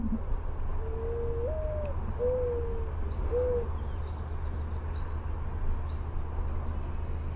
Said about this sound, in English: It's difficult to get the mooring doves because they never get close enough for you to get a good recording of them.